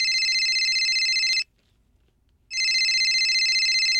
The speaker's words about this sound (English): Smash cut 2, phone ringing.